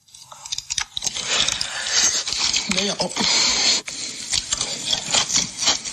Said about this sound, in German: So, und jetzt ist das an ihrer Haut geklipst und sie hat eigentlich nichts anderes zu tun, außer zu essen. Und merkwürdige Dinge zu essen. Also merkwürdige Dinge und möglichst geräuschvoll zu schlucken.